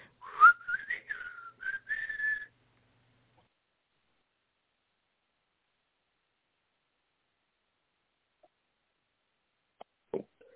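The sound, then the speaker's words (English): A person whistles a short, wavering tune for about two seconds, then it falls silent; a couple of faint knocks sound near the end. “Saunters off casually, stage left, whistling.”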